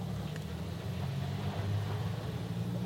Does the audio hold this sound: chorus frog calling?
no